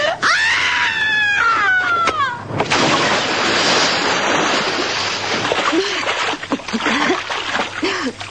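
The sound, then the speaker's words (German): A loud, rising scream cuts off in a big splash as a body plunges into water, followed by several seconds of churning, sloshing water and faint voices. “Eine hübsche Wasserbombe. Ich konnte ja nicht ahnen, dass da unten Wasser ist.”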